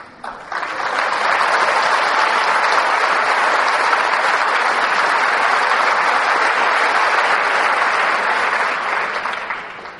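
Sustained applause from an audience during a sermon, a dense steady clatter of many hands clapping that swells quickly, holds loud for about ten seconds, then tapers slightly at the end.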